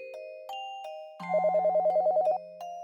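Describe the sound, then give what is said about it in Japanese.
A telephone rings with a stepped electronic tone, then breaks into a fast warbling trill of about a dozen rapid pulses before settling back to the steady tone. Clear, no voices. “あら、あれは電話の音ではありませんの？”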